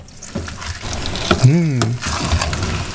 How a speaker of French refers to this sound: Alors là, nous allons faire une chose que j'adore faire, c'est déglacer, c'est-à-dire décoller les sucs de la casserole. Et ça fait... C'est très radiophonique en plus.